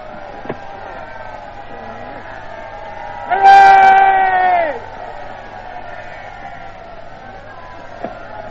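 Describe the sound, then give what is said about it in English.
A British crowd at an aerodrome, pushing round a car as it drives away, erupts in a loud burst of cheering and hurrahs lasting about a second and a half, rising out of a steady background murmur of many voices before fading back down. “Now, if you wanted to see a British crowd in real enthusiasm, you've heard that one.”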